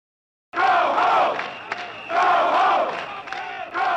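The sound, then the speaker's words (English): A crowd of people coming out of the bars in the Castro in the evening, as police enter in large numbers, screams and shouts together after a brief silence, the loud mass of voices swelling in repeated surges, dipping slightly between waves before rising again. “Later that evening, the police entered the Castro in large numbers, causing the people to come out of the bars screaming, "Get out of our neighborhood."”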